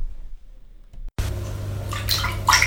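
After a moment of near silence, water suddenly pours into a glass in a steady splashing rush whose ringing tone climbs as the glass fills, as part of a solo art performance about a glass of water.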